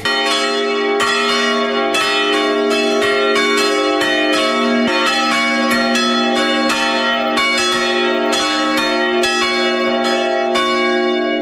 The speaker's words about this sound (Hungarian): Akkor mindjárt megszólal a harang. Mind a hármat indítsak? Igen, mind a hármat. Igen, mehet. Már leng a harang.